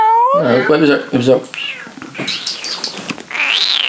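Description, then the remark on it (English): A person imitates a cat for a Room of Doom jingle, letting out a few drawn-out, wavering meows and yowls, with breathy, strained squeals toward the end. “He's supposed to do a cat.”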